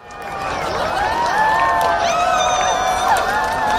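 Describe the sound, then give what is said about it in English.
A crowd in Singapore reacting together to an annular solar eclipse in which the moon covered 94% of the sun, many voices overlapping in rising and falling cheers and exclamations, a steady loud swell of excitement for the whole few seconds with no clear words. “Sounds kind of like the sound of a crowd viewing the total solar eclipse. But this was a crowd in Singapore where the moon covered 94% of the sun.”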